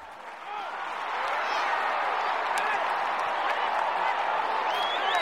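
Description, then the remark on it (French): An audience breaks into applause that swells over the first second into a dense, steady wash of clapping, with scattered voices and a few cheers mixed into the crowd noise. “Allez, applaudissez fort si c'est le cas.”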